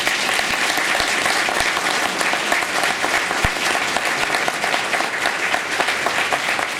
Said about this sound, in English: I would be remiss if I didn't ask you to acknowledge these people with a round of applause.